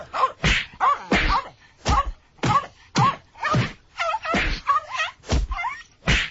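A rapid series of punching and smacking sound effects, played as a quiz clip on a radio show: about a dozen sharp, loud thwacks landing in a steady rhythm roughly every half second, with brief vocal-like yelps between some blows.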